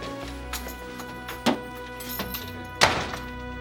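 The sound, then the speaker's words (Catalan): An apartment door shuts with a solid thunk as someone leaves, followed moments later by a second heavier thud, over a steady faint background of soft music-like tones. “Ho torna a provar, però marxa per la porta del pis.”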